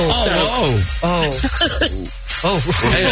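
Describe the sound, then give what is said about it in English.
Voices laughing with a sudden wet snort mixed in, a breathy, hissing burst of air through the nose among rising and falling bursts of laughter, all fairly loud. “I just, like, snorted snot out of my mouth.”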